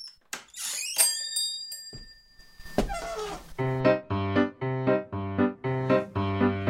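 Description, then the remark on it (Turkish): A haberdashery shop door clatters open and a bell rings out with a bright, decaying jingle, followed by a series of steady, melodic chime tones playing in even steps. “Tolga Kökten bizi yollar mısın tuhafiye dükkanına? Hemen kapıyı açıversin”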